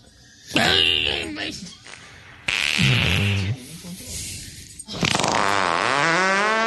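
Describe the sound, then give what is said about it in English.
Three loud fart sounds, apparently made by a voice imitating them, each a buzzing, wavering burst lasting around a second with short pauses between. “Those internal farts are the worst.”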